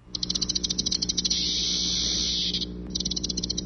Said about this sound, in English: Ah, a sure sign that it's summer in Texas, the sound of cicadas.